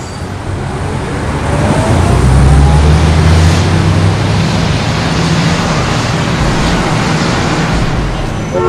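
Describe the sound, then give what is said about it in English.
A bus rumbles past on a street, its deep engine drone swelling loudly and then holding over a wash of steady traffic noise before easing slightly. “A bus passes.”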